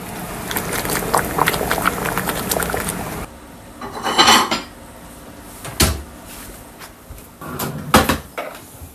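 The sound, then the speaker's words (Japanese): Thick whey pork curry bubbling in a pot, a dense crackly popping for a few seconds, then quieter simmering broken by a few louder knocks and bursts. No one speaks. “ぐずぐずぐずぐず言ってますけれども、これをちょっとねご飯によそってかけて食べてみたいと思います。”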